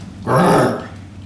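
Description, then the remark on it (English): A person voices a single short, raspy growl, about half a second long, fairly loud, imitating an animal. No speech accompanies it. “He said he woke up when he heard growling noises and that a lion or a tiger got Mom.”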